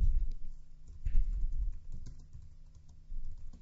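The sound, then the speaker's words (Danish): Steady typing on a computer keyboard, a run of quick, uneven key clicks with brief pauses, heard alone without any voices, as text is written on a web page about Fronter, an LMS. “Hopper over og skriver lidt på den.”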